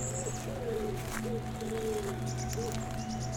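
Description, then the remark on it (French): Birds sing in short repeated high phrases and lower cooing calls over a steady, broad rush of wind, among a maze of polished, moss-covered granite boulders with a stream rushing through it. “Vous entendez non seulement des oiseaux et un bruit de fond, le vent.”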